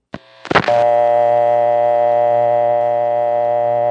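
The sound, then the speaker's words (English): A brief click and burst of clatter gives way to a steady, buzzy dial tone from a normal home phone line in a panel office, a dense harmonic hum that holds level and unbroken to the end. “Now that is almost what it sounds like to get a dial tone from a normal home phone line in a panel office.”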